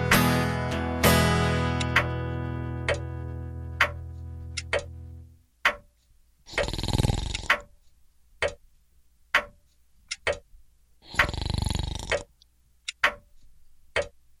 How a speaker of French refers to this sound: Tic-tac, tic-tac.